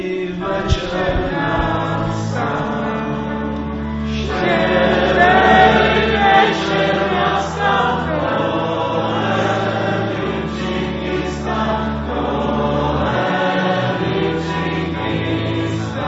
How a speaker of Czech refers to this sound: To také děti z Ježkovy školy hned dokázali, když si s … zaspívali.